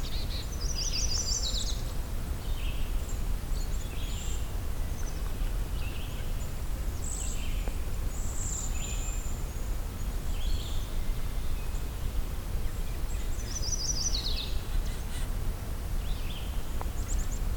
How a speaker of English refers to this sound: so this is sounding like chipping sparrow. Yeah. And a chipping sparrow. So this is going to be a very confusing place. We got chipping sparrow. There are definitely dark-eyed juncos here.